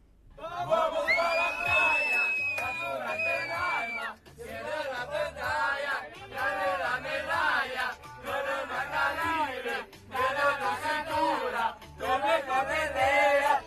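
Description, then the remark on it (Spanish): Members of the Inter team shout and chant together on their bus after winning the cup, celebrating noisily with whoops and cheering that rise and fall for about fourteen seconds. “La fiesta ya prometía en el autobús, Jesús, ¿eh?”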